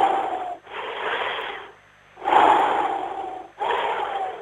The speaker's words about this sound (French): Attends. Respiration.